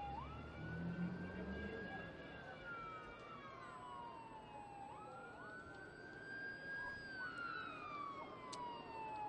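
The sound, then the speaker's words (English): An ambulance siren wails past in Daytona with a slow rising and falling tone over steady traffic rumble, loud throughout, no talking heard. “An ambulance of some kind flies by.”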